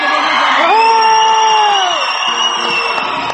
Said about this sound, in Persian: به افتخار خودتون سوت بلند بزنید فعلا.